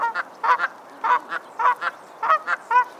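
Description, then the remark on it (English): Geese honking repeatedly in quick bursts, loud, with several overlapping calls forming a rhythmic series over a few seconds and no voices present. “Geese, though sometimes confrontational, are devoted parents and help maintain green spaces by grazing on grass and weeds.”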